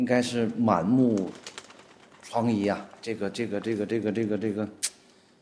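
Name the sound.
pigeons cooing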